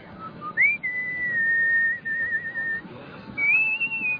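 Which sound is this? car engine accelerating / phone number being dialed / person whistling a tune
person whistling a tune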